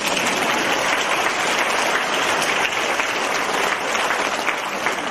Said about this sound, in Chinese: 请鼓掌